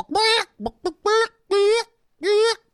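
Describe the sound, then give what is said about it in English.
A man's voice imitates a chicken squawking, with a series of loud, strained, harmonic squawks broken by short clucking bursts. “do his best chicken squawking impression”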